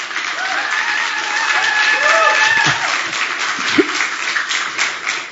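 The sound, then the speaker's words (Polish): A church audience bursts into sustained applause for a young speaker, with whoops and cheering voices, loudest from the older women, rising over dense, steady clapping that keeps going at full volume throughout. “A najgłośniej to te starsze siostry właśnie, to nie młodzież tak wiwatowała.”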